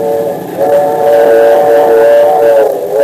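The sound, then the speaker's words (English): A train's steam whistle blows one long, loud, sustained note, slightly wavering in strength, with a faint rumble of the train beneath it and no voices, in a Dick Tracy radio drama as the train nears Northern Valley. “As long as we're not on a freight train, we've got nothing to worry about.”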